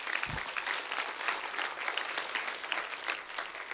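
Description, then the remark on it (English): An audience gives a clap offering during a sermon, clapping steadily, a dense, sustained patter of many hands with no voices, holding an even loudness throughout. “Come on, give him a good clap offering, would you?”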